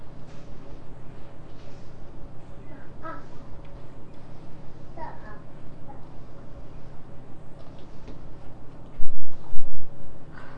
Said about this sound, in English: The bird.